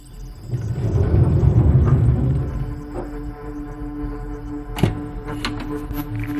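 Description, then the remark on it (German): Low muffled rumbling and shuffling, then a solid thump followed by a few lighter knocks as a woman loads something into a car, with no voices. “Sie packt irgendetwas ins Auto.”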